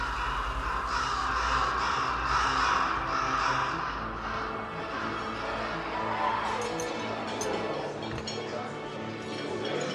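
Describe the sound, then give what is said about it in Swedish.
A flock of large birds following a ship at sea cawing harshly and repeatedly as they feast on food scraps the cook throws overboard, their raucous calls overlapping and fairly loud, with a dense, continuous chorus running throughout and no one speaking. “Stora fåglar av en obestämbar art följde skeppet och kalasade på matrester som kocken slängde i sjön.”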